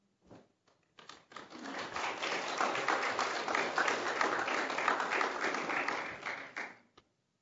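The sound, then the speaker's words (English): A church audience breaks into applause after a check is presented to a pastor and his audience, starting with a few scattered claps before swelling into steady, dense clapping that holds for several seconds and then stops abruptly. “Now, you just shocked my guests because I told them you're not allowed to clap, and you clapped, so.”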